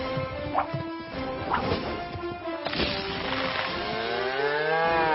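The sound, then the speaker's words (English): A cow lets out a long, loud, wavering moo near the end, after a few sharp knocks and clattering thumps amid a busy background. “Look at that sweet Lula! That big old cash cow.”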